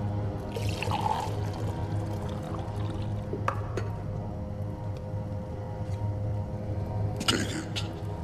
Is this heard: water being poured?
yes